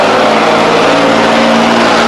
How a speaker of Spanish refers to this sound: Los camiones hacen... meten ruido, ¿eh?